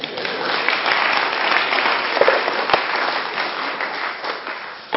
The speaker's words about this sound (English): £200 and I get a 10-second clap.